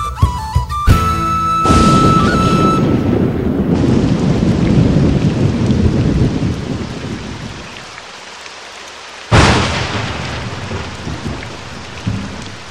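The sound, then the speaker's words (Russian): A thunderstorm with steady heavy rain and deep rolling thunder that builds, fades, then returns with a sharp crack near the end. No one speaks. “В такую грозу лучше поискать убежище.”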